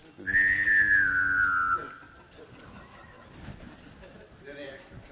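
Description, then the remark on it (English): A person whistles and sings at once, a special noise learned in Chickasha, Oklahoma: a clear, loud whistle slides slowly downward over a steady hummed vocal tone for about a second and a half, followed by a faint background murmur. “It's singing and whistling at the same time.”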